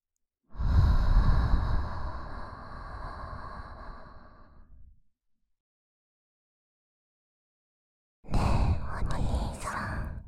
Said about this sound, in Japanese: ほら、意識して。こっちの耳から、私の息を吹き込むよ。息を吹き込まれると、頭の中が甘い甘い吐息でいっぱいになって、ドロドロ溶けていく。